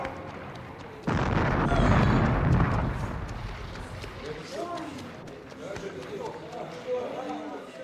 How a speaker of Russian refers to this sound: Может, выстрелить еще разок? Слушаюсь, сэр. От борта!